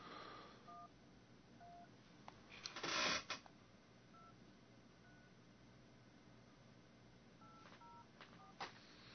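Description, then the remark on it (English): Short electronic keypad beeps sound one at a time at uneven intervals as a phone number is re-entered on a phone, over a steady background hiss with a brief burst of rustling noise midway. “And, yeah, I've got him, let me re-enter his phone number.”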